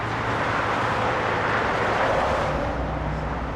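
Freeway traffic noise from the 10-lane 5 freeway, heard from the National Avenue bridge over it: a steady, unbroken roar of passing vehicles, broad hiss over a low rumble, holding an even loudness throughout with no voices.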